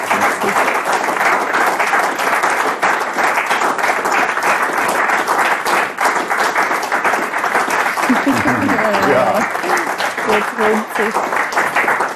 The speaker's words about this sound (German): Vielen Dank, ein herzlicher Applaus.